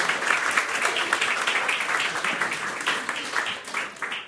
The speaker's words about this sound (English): I would like you all to give yourselves a round of applause just for showing up tonight, because I'm really pleased to see you.